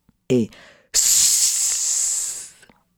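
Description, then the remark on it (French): A short voiced sound is followed by a sustained, bright hissing exhale lasting about a second and a half, a person imitating a snake in a breathing exercise, fading out at the end. “Et voilà, vous savez faire le serpent.”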